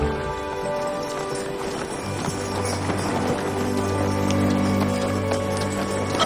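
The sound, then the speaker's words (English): Steady clip-clop of a brown horse's hooves trotting at a brisk, even rhythm as it pulls a sleigh through a snowy forest, fairly loud, with a continuous low rumble and some bright jingly tones layered over it. “The brown horse pulls him through the snowy forest.”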